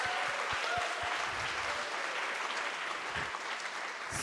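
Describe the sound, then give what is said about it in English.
A church audience claps steadily and warmly throughout, a dense wash of many hands, sustained at an even level with no voices standing out, applauding a pastor who has completed her doctorate of ministry. “Some of that applause is for you, and some of that applause is for your family, making you through that.”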